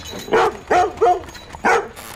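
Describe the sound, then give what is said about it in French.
A dog barks four times in quick succession, sharp, with short gaps between each bark and no other sounds around it. “Robin se fit réveiller par l'aboiement de son chien et le chant du coq”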